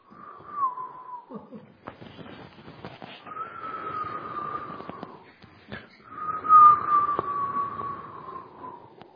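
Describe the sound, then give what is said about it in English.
Wind whistles through a narrow ventilation slit in an open window without glass, of the kind arrows were put through, in long, wavering moans, rising and falling three times over a steady breathy rush of air, moderately loud. “But anyway, the wind would always whistle.”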